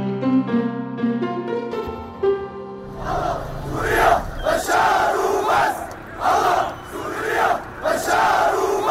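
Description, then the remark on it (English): After a few seconds of sustained musical tones, a large crowd of pro-government fighters bursts into loud cheering and shouting, rising and falling in rhythmic waves of chant-like cries, as buses evacuate about 8,000 remaining residents of the Syrian town of Daraya, a suburb of Damascus, after four years of siege and bombing. “After 4 years of siege and bombing, buses evacuated about 8,000 of the remaining residents of the Syrian town of Daraya, a suburb of Damascus, to the cheers of pro-government fighters that you can hear there, took place on Friday.”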